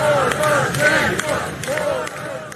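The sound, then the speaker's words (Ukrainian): A dense crowd of supporters at a rally outside the Pechersk district court in Kyiv, Ukraine, shouts and cheers continuously as fifth Ukrainian president Petro Poroshenko arrives, voices overlapping in a loud chant-like roar with rising calls, and faint clapping mixed beneath the steady din. “Під вигуки та оплески прихильників п'ятий президент України Петро Порошенко підходить до Печерського райсуду Києва.”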